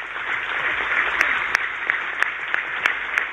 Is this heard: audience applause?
yes